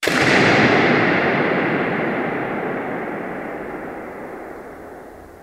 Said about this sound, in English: Remember that balloon pop? Here is what Pencheva recorded inside the Hagia Sophia.